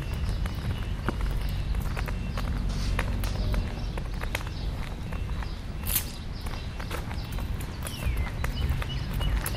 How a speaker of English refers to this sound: And I know it is really windy. I don't even know if those windscreens are helping at all.